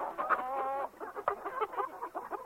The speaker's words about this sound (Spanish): Este es un pavo tranquilo.